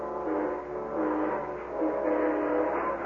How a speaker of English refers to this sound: I rode up to the coaling station at Elmore Springs and flagged down the eastbound train that same afternoon.